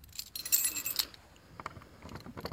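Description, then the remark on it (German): Metallic jingling of a key bunch, with bright clinks and rattles, followed by softer scraping and clicking as a key is tried in the lock of a round-arched cellar entrance between two carriage entrances; the key does not fit. No talking. “Müsste ich schauen, ob mein Schlüssel passt, dann könnte man einen Blick reinwerfen.”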